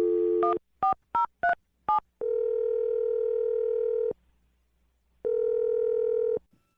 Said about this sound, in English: Okay, I'm dialing it right now. Here we go.